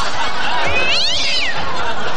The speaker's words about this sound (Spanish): Hazte un miau. Hazme un miau, miau, miau.